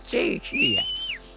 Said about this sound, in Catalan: I si volien anar-li a dir alguna cosa a una persona havien de fer unes distàncies molt llargues i certament a vegades perilloses. Aleshores van inventar un llenguatge que era el xiular molt fort.